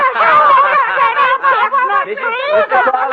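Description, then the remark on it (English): A dense crowd laughs and shrieks continuously, with high-pitched screams and snickers layered over a steady hubbub of many voices, loud throughout the few seconds. “The crowd is screaming, having fun.”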